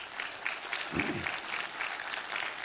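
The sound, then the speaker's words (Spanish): A church audience applauds the pregnant women in the church, a dense, steady wash of many hands clapping at once with no breaks, joined briefly near the middle by a short voiced sound. “Denles un aplauso a las embarazadas.”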